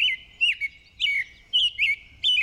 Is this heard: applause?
no